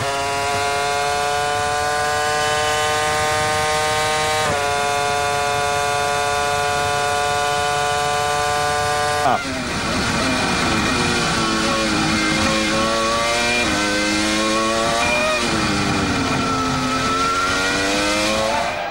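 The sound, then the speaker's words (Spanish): Formula One cars scream at full throttle as the race restarts and the safety car leaves through the pit lane: a loud high-pitched engine whine holding steady, then several engines overlapping with pitch climbing and dropping through gear changes. No one speaks. “acelerando a pleno. Se relanza la carrera, el safety car se va por el pit lane.”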